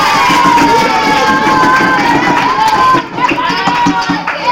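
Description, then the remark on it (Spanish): A crowd of children cheers and claps loudly and continuously, applauding everyone after a word quiz is completed, a dense wash of shouting and applause that dips briefly near the end before swelling again. “Un aplauso, chicos, para todos.”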